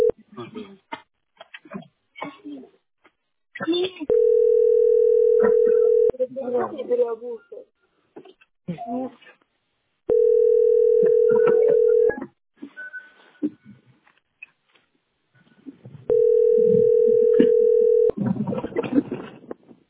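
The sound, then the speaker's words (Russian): A loud, steady telephone dial tone sounds three times in roughly two-second bursts, evenly spaced, with people talking in the gaps between them. “Да где близко там 300, блин, телефон?”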